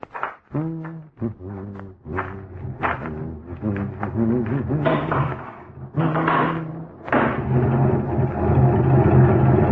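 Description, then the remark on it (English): A car engine runs, its low mechanical hum rising and dipping in uneven surges before settling into a steadier, louder idle toward the end. “I hope you hadn't been sitting here with a motor running all this time.”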